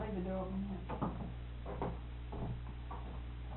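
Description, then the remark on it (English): A door is opened with a few soft wooden clunks and knocks spaced over a couple of seconds, against a steady low hum, with a brief murmur of voice at the start. “Yeah, I'll leave the door open.”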